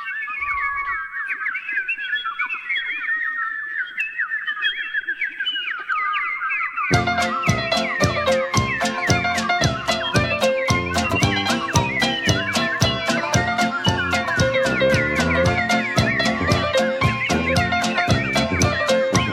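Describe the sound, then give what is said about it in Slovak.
A song opens with a solo whistled melody, then a full band with a steady, driving beat bursts in loudly partway through and keeps going to the end. “Takže dáme si pesničku a po prestávke sa vrátime znova.”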